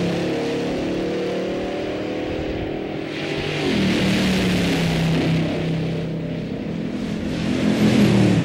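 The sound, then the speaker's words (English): A race car engine roars steadily and loudly, its pitch shifting abruptly partway through before climbing again as it accelerates near the end. No voices are heard. “The second run, I gave it way too much throttle. I spun the tires.”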